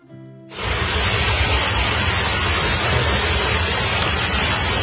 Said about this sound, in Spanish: Las lluvias, que van a continuar esta semana y la que viene en buena parte del país, han dado la puntilla a la sequía hasta el punto de que el nivel de los pantanos se ha elevado a más de un 60%.